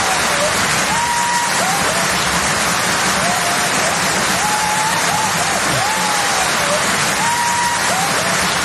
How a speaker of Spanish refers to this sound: Los aplausos del público dejan en un segundo plano los gritos de …, pero se escucha perfectamente de fondo.